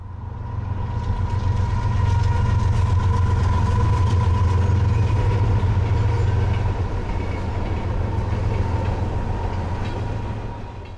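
A tornado's deep, steady roar of rapidly rotating wind rumbles loudly and continuously, swelling slightly midway, like a passing freight train, with a faint whine riding above the low drone.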